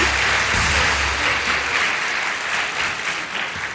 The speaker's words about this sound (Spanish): Te dejamos un fuerte aplauso para mi causa.